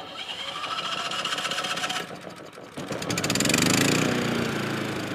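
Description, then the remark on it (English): A family's new portable generator in Israel cranks with a rattling, uneven chug, then catches and revs up into a loud, steady buzzing drone with a rising tone, and no voices. “But Kahan's mom is stocking up on dried food, and his dad shows us his new generator.”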